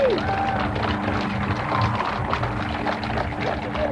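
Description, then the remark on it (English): A large crowd cheers and applauds a woman speaker, who pauses and dabs her eyes with a handkerchief, in a dense, steady roar that holds for the whole stretch, with a few whistles rising above the noise. “You can hear her husband ask if she has a handkerchief, and she draws one from her pocket and she dabs her eyes while the cheers continue.”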